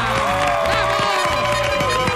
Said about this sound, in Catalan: Vinga, va, un aplaudiment per la Bianca Baldric de Bellacasa.